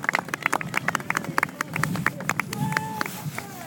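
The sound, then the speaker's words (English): Scattered applause from an audience for a display of Roman auxilia troops: a run of sharp, uneven claps at moderate loudness, with some faint voices and murmuring mixed in toward the end. “Give our auxilia a round of applause, please, ladies and gentlemen.”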